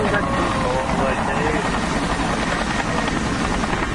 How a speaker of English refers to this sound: No, helicopter coming.